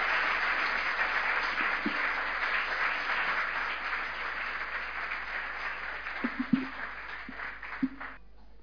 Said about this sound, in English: Well, why don't we just give them all one more round of applause?